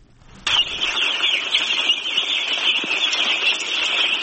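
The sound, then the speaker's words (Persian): A dense chorus of high-pitched peeping from many day-old chicken chicks, recently brought from Pakistan to be raised on a farm in Totumdara village, Parwan province, Afghanistan, starting abruptly and continuing steadily as an overlapping wall of chirps with no voices. “چوچه های یک روزه مرغ به تازگی از پاکستان آورده شده و قرار است برای پرورش در قریه توتمدره مرکز ولایت پروان داخل یک فارم شوند.”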